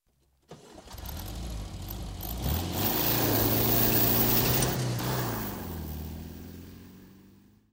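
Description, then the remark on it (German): A car engine cranks and turns over, revving up loudly before settling into a steady, slightly lower idle, with no voices. “Das Auto.”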